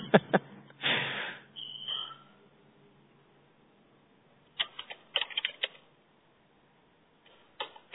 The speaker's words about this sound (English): Kathy's typing, says great, excellent.